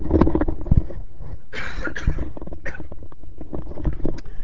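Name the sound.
cough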